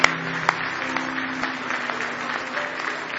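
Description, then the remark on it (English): An audience gives a hand clap of praise to God, clapping together in a dense, sustained burst of applause, many hands overlapping into a steady wash with a few sharper claps standing out. “Give him a big hand clap of praise tonight.”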